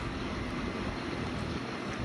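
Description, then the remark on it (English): A boat's motor roars steadily as the boat makes a flyby on the water, mixed with rushing wind and splashing water, holding a constant loud level throughout with no voices. “Couple flybys,”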